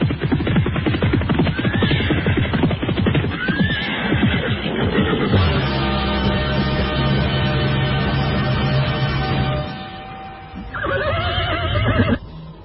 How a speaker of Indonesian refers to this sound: Pada saat itulah nampak beberapa ekor kuda berlari mendekat.